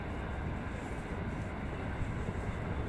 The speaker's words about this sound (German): Ich hoffe, der Zug ist jetzt auch gleich weg.